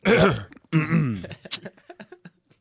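Two loud, exaggerated throat clearings, close to the microphone, each a raspy voiced rumble, followed by a scatter of small clicks and short breathy sounds as it trails off.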